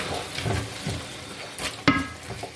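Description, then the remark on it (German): Sauerkraut bubbling and sizzling in a pot, a steady crackle with soft stirring sounds and one sharp metallic clink near the end. “Und das kocht jetzt nicht schön.”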